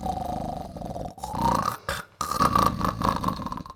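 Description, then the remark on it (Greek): A voice imitates the mentiola snoring, with rough, guttural, rumbling breaths: three drawn-out snorts separated by brief pauses, fairly loud with a low growling tone. “Είπε η μεντιόλα και άρχισε να ροχαλίζει.”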